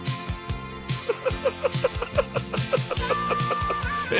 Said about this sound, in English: Next, we'll super glue this chicken to the middle of the road.